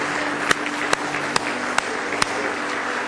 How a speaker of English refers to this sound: Well, you got to give Him another good hand clap of praise in the house of the Lord tonight.